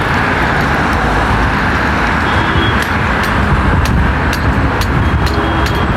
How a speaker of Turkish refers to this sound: Bunu geçtikten sonra yavaş yavaş böyle bir sürü metrobüsler sıralanıyor böyle hızlı hızlı.